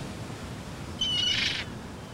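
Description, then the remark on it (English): A seagull in the sky by the sea, beside a caravan site, lets out one short, high call that rises and breaks into a harsh squawk, heard clearly over a low, steady outdoor rumble. “looks at a seagull in the sky.”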